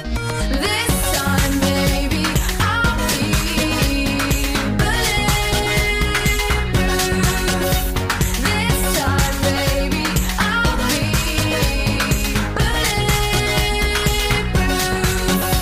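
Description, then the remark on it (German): A song plays at a steady, full level for about fifteen seconds, with a driving beat, layered instruments and bright high-end texture, and no one talking over it. “Ich packe ihn dir sogar mal rein.”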